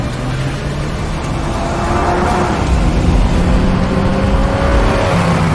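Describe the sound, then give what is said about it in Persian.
A car engine roars steadily during a chase, its pitch shifting slightly as it revs, with a dense rumble filling the whole stretch and no voices. “از ماشین پیاده شین. بیاین بیرون.”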